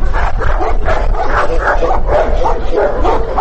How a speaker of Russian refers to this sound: Поэтому пока и самих животных тоже немного. Только несколько собак, что встретили корреспондента дружным лаем.